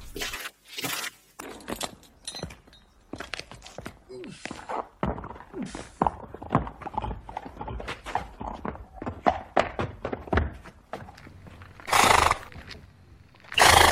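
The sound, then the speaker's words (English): Two horses shift and clop with a busy run of irregular hoof thuds, broken by a few loud, breathy whinnies and snorts near the start and end. “Here, I've got two horses over here.”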